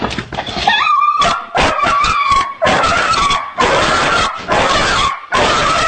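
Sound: dog whimpering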